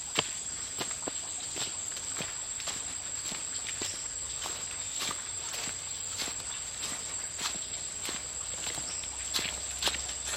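Steady footsteps squelch through wet, muddy ground at an even walking pace as people with headlamps walk back to the station at 6:30 in the evening, while a constant high-pitched insect drone and crickets fill the night jungle background. No one speaks.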